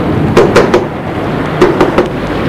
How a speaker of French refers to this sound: Arrivé à la ferme, il trouve le lieu lugubre. Descend de cheval et va frapper à la porte.